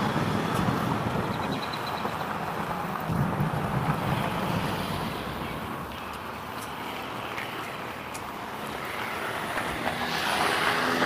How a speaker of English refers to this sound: Look at all the traffic, my goodness. Five cars at this one intersection.